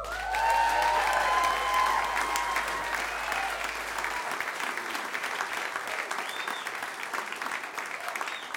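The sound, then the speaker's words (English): Sustained audience applause at a storytelling event at One Longfellow Square in Portland, welcoming a storyteller to the stage. It is loud and dense, with many hands clapping steadily and a few cheers and whoops in the first couple of seconds before settling into even clapping. “So again, with the clapping, please welcome to the stage”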